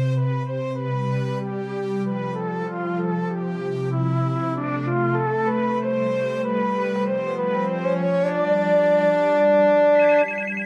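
A melodic phone ringtone plays continuously for about ten seconds, a bright electronic tune with sustained notes at a steady, fairly loud level. No one speaks over it.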